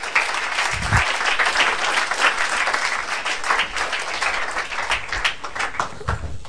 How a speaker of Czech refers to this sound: Pojďme zatleskat, pojďme sem přivítat nahoru.